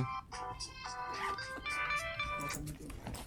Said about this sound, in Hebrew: אוי. לא יודע איפה זה... זה טלפון שלי מצלצל? כן, זה הסליל.